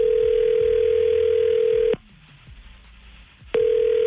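A phone line's ringback tone on an outgoing call placed by the 99.9 Virgin Radio morning show: a loud, steady electronic ring of about two seconds, a pause, then the next ring beginning, with a faint line hiss throughout.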